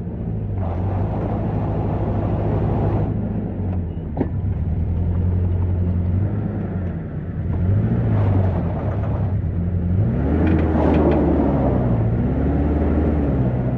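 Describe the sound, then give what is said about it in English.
A vehicle's diesel engine approaches up a hill with a deep, steady rumble and strong low droning tones. It grows slightly louder as the engine revs, and its pitch rises and falls toward the end. No voices. “As I was eating, albeit with a heavy acquiescence, I heard and felt a low rumble of an approaching diesel engine.”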